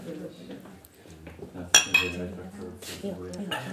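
Glasses clink together in a toast, one bright ringing chime quickly followed by a softer second touch, set against low, murmuring voices in the background.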